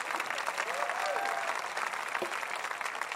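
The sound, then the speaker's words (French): An audience bursts into steady applause, an ovation for God's promise of destiny: dense overlapping clapping that holds at an even level throughout, with a brief rising cheer or whoop faintly audible in the middle. “Voulez-vous applaudir avec moi la promesse de destinée que Dieu a? Donnez-lui une ovation pendant une seconde.”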